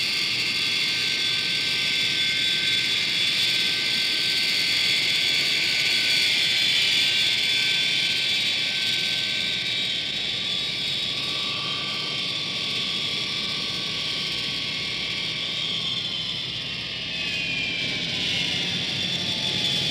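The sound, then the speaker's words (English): A loud, steady jet engine roar and high whine, continuous, with a slight shift in pitch toward the end as the airplane moves slowly on the ground, nearing and led by a yellow truck; its side is marked United States of America. “On the side of the airplane, United States of America, replacing the Air Force identification, which had been there previously.”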